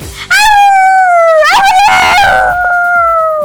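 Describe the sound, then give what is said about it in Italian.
A dog howls loudly in one long, sustained wavering howl, with a brief yelping break in the middle before the drawn-out tone resumes. No one speaks. “Saluti dal cane.”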